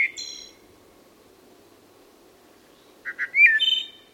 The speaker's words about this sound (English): From the ethereal song of a wood thrush in an eastern forest.